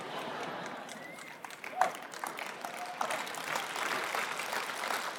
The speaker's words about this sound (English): Thank you for two people clapping on that.